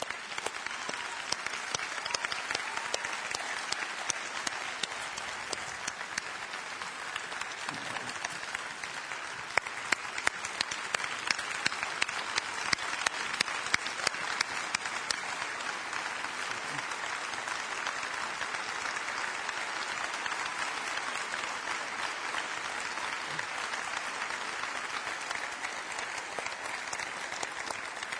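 A church audience applauds steadily for nearly half a minute as a couple is introduced, a dense, even patter of many hands clapping with no pauses and no voices rising above it.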